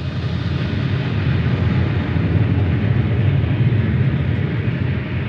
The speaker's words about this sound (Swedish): Ja, det vi hör här i bakgrunden, det är en illustration över en vätebomb som smäller av precis ovanför Stockholm.